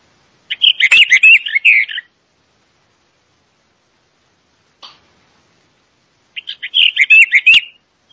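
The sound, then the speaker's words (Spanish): Two bursts of rich, warbling song of a Western Orphean Warbler, each about one and a half seconds long, separated by a long silence with a single short click in between; clear, no talking. “Curruca mirlona.”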